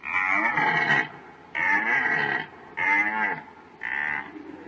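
A red deer stag bellows four times during the rut, each deep, raspy roar lasting about a second with short pauses between, loud, with no other sounds.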